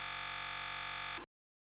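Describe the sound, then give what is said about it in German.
A steady wash of electrical interference static from electrosmog, with a layered, buzzing hum, constant and unchanging for about a second before it cuts off abruptly into silence. No voices. “könnten aber auch von Menschen verursacht durch jedes Element des Elektrosmogs, der die Stadtgebiete überdeckte, vom Summen der Stromleitungen über die Autozündungen bis hin zu dem Rauschen, das von den Elektrogeräten her rührt.”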